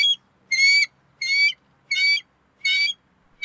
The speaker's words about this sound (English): That squeaking is actually from a mighty American bald eagle.